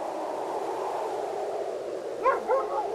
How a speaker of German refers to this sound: Mama, ist es ein Wolf? Hat der Hunger? Nein, es ist ein Hund. Ein Hund. Hier draußen.